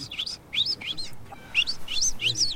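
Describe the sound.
A person whistles a string of quick, high, chirping notes imitating a goldfinch, with rising and falling slurs in short bursts that grow busier toward the end. No talking. It is the whistle used to call back a pet goldfinch, which recognized it.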